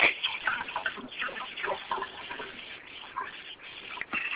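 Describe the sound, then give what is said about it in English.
A steady, dense sizzle like fish frying in oil, full of irregular crackles and tiny pops at an even, moderate loudness, with no voices. “Sound like somebody frying some fish or something.”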